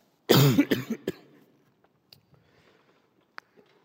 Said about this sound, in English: I have to cough, excuse me.